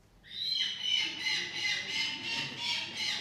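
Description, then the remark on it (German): Harsh, repeated falcon calls in a steady series of rasping squawks, loud, with a faint indoor murmur underneath, from falcon patients perched on a 20 cm high wooden perch in front of the reception of a falcon medicine clinic in the United Arab Emirates. “Vor der Rezeption sitzen die Patienten stoisch auf einer 20 cm hohen Holzstangenkonstruktion, die mit grünem, stacheligem Plastikrasen überzogen ist.”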